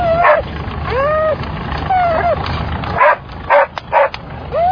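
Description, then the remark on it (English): A dog whimpers in rising, drawn-out whines, then lets out several sharp barks and yips in quick succession, loud, with no one speaking. “Brave dog, that.”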